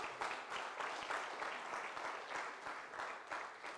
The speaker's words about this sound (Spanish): ¿Por qué no le damos un fuerte aplauso al Señor en acción de gracia?